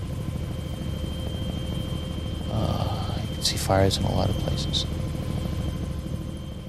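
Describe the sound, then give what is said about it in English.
A helicopter's turbine whines steadily over a dense, rumbling engine drone that fills the whole clip, loud, while a person speaks over it, as the helicopter lifts off and heads out over Saigon. “Incredible, like a turbine kind of whining sound.”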